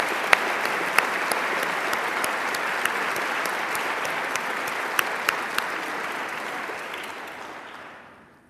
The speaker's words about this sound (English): Let's give one more round of applause for all of these individuals.